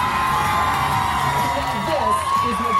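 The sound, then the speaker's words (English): A loud, dense crowd of fans at a RuPaul's Drag Race viewing party roars and cheers continuously, with overlapping shouts and whoops, going wild as drag queen Versace appears on the venue's TVs. “The roaring crowd drowns out Versace introducing herself in the episode, and the fans go wild every time she appears on the venue's TVs.”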